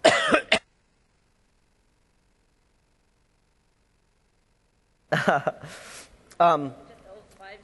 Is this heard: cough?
yes